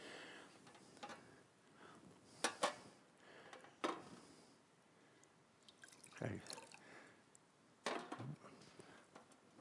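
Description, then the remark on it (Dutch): Water is poured into a glass without spilling, a quiet liquid trickle broken by several sharp clinks and knocks of the glass and bottle at irregular moments. “Ik doe dit nooit, maar ik moet nu even een glasje water hebben.”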